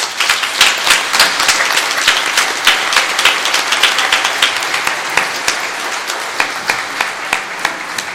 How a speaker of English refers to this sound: would you please help me welcome her to our pulpit and show her some love with a huge round of applause.